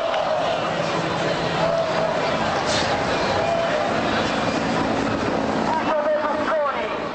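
A steady, loud drone of police helicopters overhead fills the scene, a dense mechanical roar that nearly buries the murmur and chanting of a large protest crowd below.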